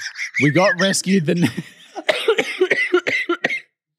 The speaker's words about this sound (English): I just coughed.